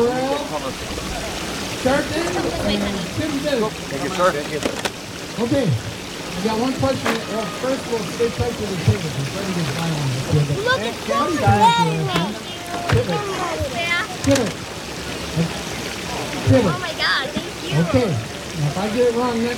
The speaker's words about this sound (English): Oh, the boats are coming in now. Boat number 57